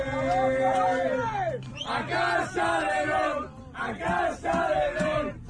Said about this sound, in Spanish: Así de animados cantaban en el autobús que les llevaba de camino al aeropuerto de China.